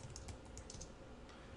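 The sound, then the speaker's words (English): Rapid, irregular clicks of typing on a computer keyboard in Visual Web Developer Express Edition, with its auto-complete, a steady flurry of light taps with no voices present. “So, I can speed along my typing”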